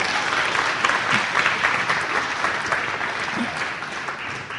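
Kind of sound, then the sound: crowd, audience applause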